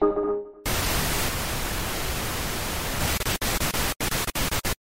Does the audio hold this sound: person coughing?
no